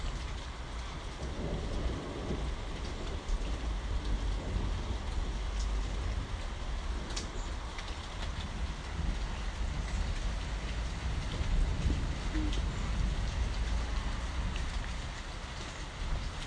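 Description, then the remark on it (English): Heavy rain pours down in a steady, dense hiss that never lets up, with a deep low rumble underneath and occasional sharper drops spattering. No one speaks. “But it's been quite a while since I've been able to just stand here and listen to it.”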